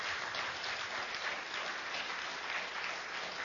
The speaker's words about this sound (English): So let's give all the folks that came out, let's thank them with a round of applause for their time.